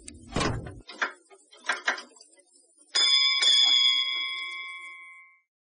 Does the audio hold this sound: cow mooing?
no